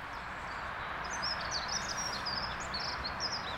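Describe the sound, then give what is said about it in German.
A dunnock sings a quick, high, flowing warbling phrase that rises and falls, somewhat soft over a steady background hiss of outdoor noise, in the Leine river meadows in Germany. “Da singt gerade eine Heckenbornelle hinter uns.”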